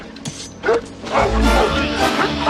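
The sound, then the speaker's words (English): The dog Hooch barks repeatedly in quick, uneven bursts, fairly loud, with a few higher yips mixed in among the barks, at a dock. “I'm going to introduce you to my dog.”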